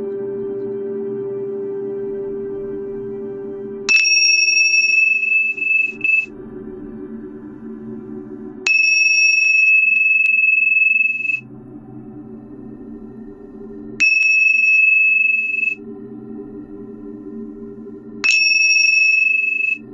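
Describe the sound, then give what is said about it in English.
A meditation chime rings four times at slow, even intervals, each clear metallic tone sustaining for a couple of seconds over a steady low humming drone. “And now with each chime, imagine the lotus flower blooming and filling the throat area.”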